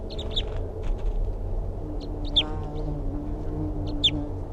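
A wild bird, returning after its calls were played back, gives three sharp, high-pitched calls from a very small tree about 3 feet above the ground, spaced roughly evenly apart, each a quick descending chirp, over a steady low background hum with no talking.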